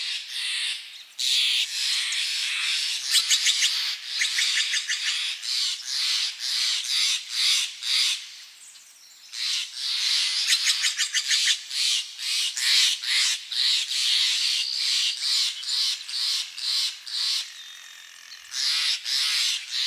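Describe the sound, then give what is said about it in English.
A dense chorus of songbirds sings continuously along the banks of the Russian River, just north of Marin County, with high-pitched chirps, rapid trills and harsh calls overlapping, steady and fairly loud, briefly thinning twice before resuming. No one speaks. “Now, there are many songbirds that call the Russian River home, and one day Ed Herman recorded as many as he could.”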